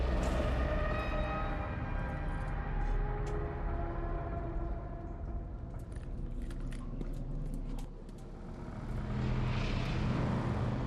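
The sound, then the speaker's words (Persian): A deep, sustained droning roar with layered humming tones, swelling and dipping slightly, overlaid by scattered faint clicks and rattles: a storm forcing air through pipes, making them sound. “طوفان هوا رو توی لوله ها فشار میده، باعث میشه صدا کنن.”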